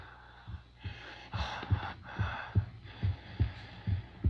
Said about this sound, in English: It's breathing.